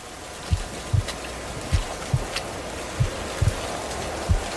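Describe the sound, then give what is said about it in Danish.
Steady rain hisses and splashes down on a road, with heavier drops landing in irregular, dull thuds every half second or so. No voices are heard. “En lille hjort liggende i en pøl af blod på vejen med regn slaskende ned på kroppen.”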